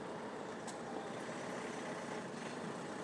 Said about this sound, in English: Oh, apart from the fact that I've just put him in front of a car that wants to move off.